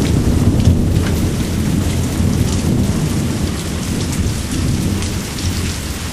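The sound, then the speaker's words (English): Heavy rain pours steadily throughout, a dense hiss over a deep, continuous rumble of thunder that swells and rolls without pause. No voices are heard. “Lightning. Yeah, 3 seconds.”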